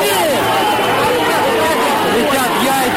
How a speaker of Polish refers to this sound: Ludzie krzyczeli w kierunku jeńców: faszyści, nabić ich na pal. Rzucali w ich stronę kamieniami i butelkami. Głos z megafonu kilka razy powtarzał: jesteśmy Rosjanami.